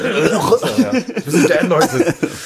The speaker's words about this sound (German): Ich bin auch, also erstmal da irgendwie fette, räuspern wir uns beide mal.